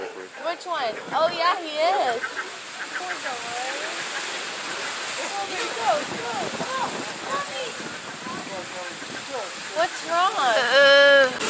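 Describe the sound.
Steady wash of sea waves breaking against the shore at a sea lion colony with pups, the water rising over a metre as each wave passes, a constant rushing roar, with overlapping calls and voices layered on top throughout and a louder burst near the end.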